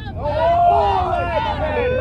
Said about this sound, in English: Here is a sample of some of the sounds of the Greenville protest that started at noon on July 18th.